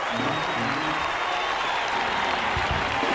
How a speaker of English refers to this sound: See, you can't even clap. You too tired to clap.